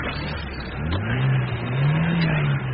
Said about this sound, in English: Ripping up engines on a car standing in the street. I call that risky.